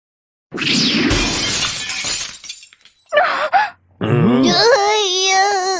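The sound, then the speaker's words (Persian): A glass drink bottle smashes loudly, a bright crash with tinkling shards over a couple of seconds, leaving the floor wet, followed by short vocal grunts and then a drawn-out, wavering moan. “ای بابا، زمین کاملا خیس شده، واقعا شرمندم”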